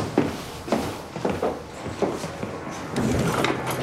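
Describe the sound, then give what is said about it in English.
A police officer barges open the front door of a flat with a series of heavy knocks and thuds, followed by scuffing footsteps and rustling movement as the police enter. The thumps are irregular and fairly loud, and no one speaks. “Red-shouldered Mansell barges the door open and the police enter the Spartan-looking flat, where the lights are off.”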